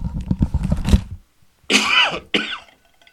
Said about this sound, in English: I'm sorry I'm sorry that I coughed into the microphone, and I don't know how that came across. Probably didn't come across so well. Caught me by surprise.